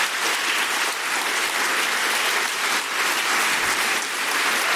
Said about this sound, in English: You realize you're applauding for God, right?